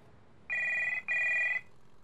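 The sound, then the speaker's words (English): A telephone in a house rings in two quick back-to-back bursts, a bright electronic trill that sounds clear, then stops, leaving only quiet background. “The phone rang while Denzel was watching the house.”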